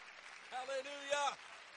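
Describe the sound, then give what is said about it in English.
A crowd claps steadily during a sermon about the name of Jesus, a dense even patter, while a voice briefly calls out over it with a couple of sustained shouted tones in the middle. “Would you clap your hands if you know the name?”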